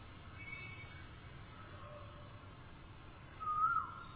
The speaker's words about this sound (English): That's someone imitating. That one's the real one. Because the cuckoos were singing in the Vrindavan forest.